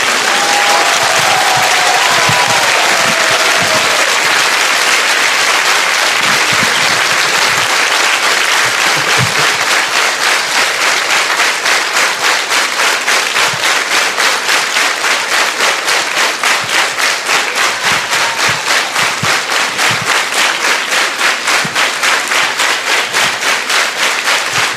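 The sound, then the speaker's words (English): Sustained applause from an audience for a person as they walk, dense and steady, gradually settling into a more rhythmic, synchronized clapping pattern toward the end, with faint voices underneath early on. “The longer you walk, the longer the applause will be.”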